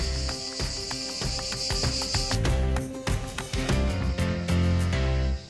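insect, cicadas chirping

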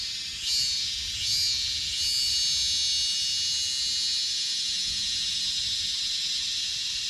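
insect, cicadas buzzing

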